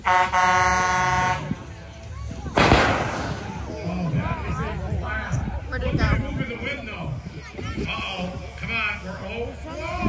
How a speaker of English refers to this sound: So this is for distance, not one, from the large air cannon.